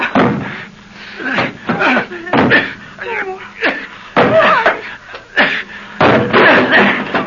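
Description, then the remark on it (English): A metal kitchen stool bangs hard against the front door of a house again and again in an uneven rhythm, loud, with a voice grunting and calling out between the blows, as someone tries to break out of the house. “This metal kitchen stool will do fine. What are you doing? I'm going to bust us out of here.”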